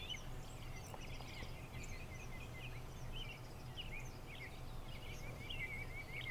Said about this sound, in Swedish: Hör du vinden? Fåglarna som kvittrar?